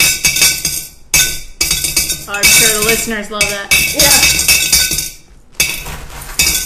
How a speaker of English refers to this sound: Speaking of swear jar, I am now going to put in all the coins that I should have with all the swears in the past two.